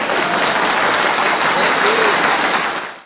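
A dense, steady wash of crowd applause fills the whole stretch, loud, with many hands clapping at once before it fades away at the very end.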